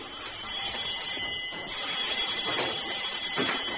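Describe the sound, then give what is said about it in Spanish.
A shrill electric doorbell buzzes on and on, breaking off for a split second before sounding again just as steadily, with a high, piercing tone and no voices. “Están llamando. Ya lo sé. ¿Y por qué no va a abrir?”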